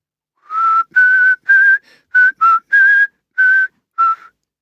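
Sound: man whistling a tune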